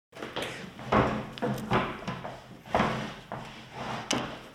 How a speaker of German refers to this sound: Ich bin zum Beispiel von meinem Stuhl aufgestanden und habe mich dann wieder hingesetzt und zwischendurch habe ich ein bisschen hin und her gerückt und sitze jetzt besser als zuvor.